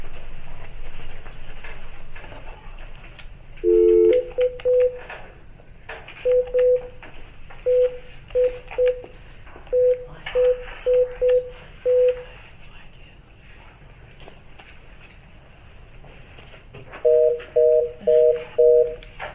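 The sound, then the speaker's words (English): A telephone keypad is dialed during a board meeting: short, steady beeps pressed one at a time in a run of about a dozen, with a pause before a final quick burst of four, over a faint room hum. “Do we have to get anybody on the phone for this one?”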